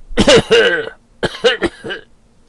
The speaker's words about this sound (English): And coughs in confirmation horribly.